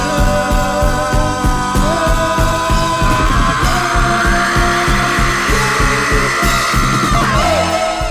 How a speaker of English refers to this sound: including a harmony section singing … and a long, drawn-out scream, which on top of this new progression and beefed up by the distorted …, makes for an extremely cathartic climax.